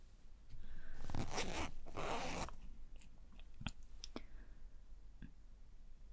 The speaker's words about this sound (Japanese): いい？チャック下げても。ほら、下げるよ。